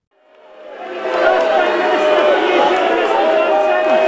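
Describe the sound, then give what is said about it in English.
A crowd outside, as Scotland's First Minister Nicola Sturgeon greets newly installed UK Prime Minister Boris Johnson, shouts and jeers continuously, many overlapping voices rising in over the first second and then holding loud and steady, with occasional higher-pitched yells and whistles cutting through. “Scotland's First Minister Nicola Sturgeon may have greeted newly installed UK Prime Minister Boris Johnson with a handshake, but the crowd outside were less than cordial.”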